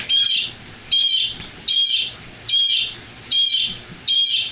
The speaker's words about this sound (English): I have a bird that makes a bird call. Hold on, here we go.